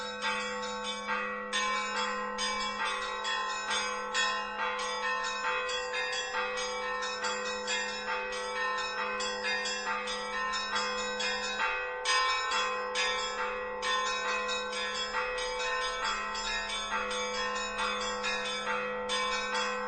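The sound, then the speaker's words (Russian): A dense peal of church bells in Rostov, Russia, rings continuously, many bells overlapping in a rapid, rhythmic clangor over a steady low hum, loud and full with no voices. “В 14 году вместе с Метнером, Эмилием Метнером, братом Николая Карловича Метнера, композитора, он путешествует по русским городам, по Ярославлю, по Ростову, слушает ростовские звоны.”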